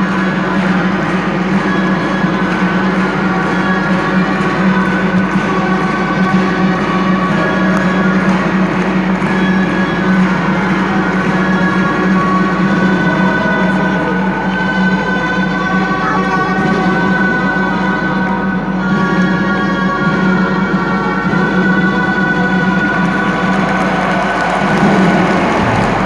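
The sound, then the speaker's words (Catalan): Gralla shawms of the colla de geganters i grallers of Calella play for the town giants' festa major dance at the parish church, a loud, piercing reedy melody without pause, with bright sustained tones holding steady for the whole stretch and no voices heard. “Ballen els gegants de la ciutat, salten al ritme de la música de les gralles i també dels aplaudiments dels ciutadans, que no són pocs, que són presents en aquesta actuació de la colla de geganters i grallers aquí a l'església parroquial.”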